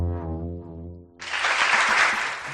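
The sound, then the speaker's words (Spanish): A held, sustained musical tone fades out, then a crowd bursts into loud, dense applause that continues steadily until the end; the applause marks that the Centro de Iniciativas Creativas Galerías VA in Valladolid will organize its third Design and Creative Services Fair. “Y este aplauso porque el Centro de Iniciativas Creativas Galerías VA, en la calle López Gómez de Valladolid, va a organizar la tercera Feria de Diseño y Servicios Creativos y Culturales este viernes y sábado.”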